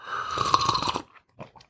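A loud slurp of coffee lasting about a second, airy and gurgling, followed by a few soft mouth or swallowing noises before silence.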